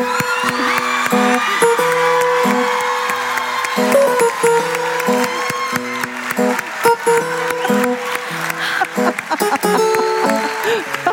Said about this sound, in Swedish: Varm applåd!